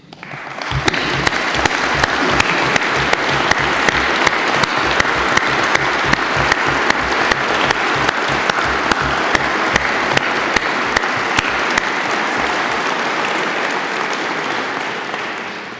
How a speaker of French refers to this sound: Nos cinq lauréats juristes peuvent se lever pour que nous les applaudissions.